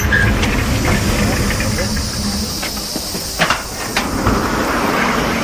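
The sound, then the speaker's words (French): The Jules Verne II, a new hydrogen-powered river passenger boat, the first of its kind in France, docks by the green bank of a Loire tributary in the afternoon, its motor giving a steady low rumble with a faint airy hiss above it and a few brief knocks and thumps near the end. “on peut embarquer sur un tout nouveau navire à propulsion hydrogène qui circule sur la rivière”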